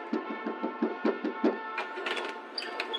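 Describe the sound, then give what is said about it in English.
A rapid, even series of about eight knocks on an office door, moderately loud, followed by a few softer scraping and shuffling sounds. No one speaks. “I was thinking of taking a nap when there was a knock at the door.”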